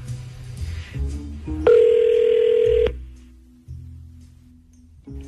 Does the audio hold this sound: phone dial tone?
yes